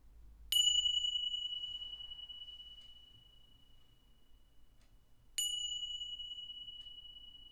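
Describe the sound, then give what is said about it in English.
A meditation bell is struck twice at the end of a meditation, about five seconds apart, each clear bright tone ringing out and slowly fading, with no one speaking. “Just allowing yourself to sit with that feeling until the bell rings.”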